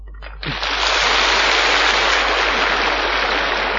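A crowd bursts into sustained applause after a brief moment, the dense clapping holding steady and loud through to the end without fading.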